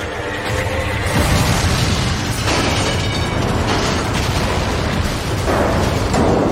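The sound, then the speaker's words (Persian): A loud, sustained roar of blast noise from a rocket-propelled grenade explosion, with several heavy bursts surging through a dense rumbling wash, overpowering, with no voices; the blast comes from the direction of the rig and is detected by radar. “رادارای انفجار رو تشخیص دادن.”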